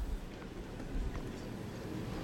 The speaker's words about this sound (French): Toujours ce vent, vous l'entendez normalement.